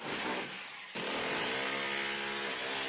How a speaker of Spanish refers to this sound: Vaya pasada de taladro. Sí, es un taladro Makita.